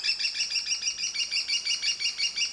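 An American kestrel calls in a rapid, steady series of shrill, high-pitched notes, repeating without pause for several seconds with no talking.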